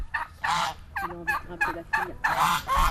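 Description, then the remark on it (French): Turkeys gobble in bursty, warbling calls while geese honk, several loud overlapping bird calls filling the backyard of a traditional house with no one speaking. “Dans l'arrière-cour d'une maison traditionnelle, au milieu des oies, des dindes, d'une dizaine de chiots nés la veille, 4 chevaux sont bichonnés par le palefrenier”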